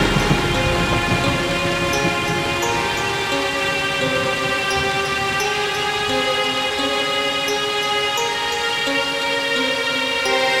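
Steady, continuous rain hisses at an even level, joined by a low rumbling undertone and sustained tonal notes that ring beneath it throughout. No one speaks.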